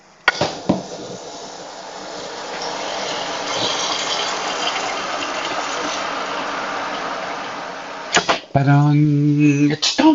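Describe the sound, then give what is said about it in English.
Water pours into a cup holding a tropical-flavored drink mix in a steady, rushing hiss lasting several seconds, then cuts off abruptly before a voice starts talking. “Unfortunately, it doesn't make any sound going into the cup, but here goes the water.”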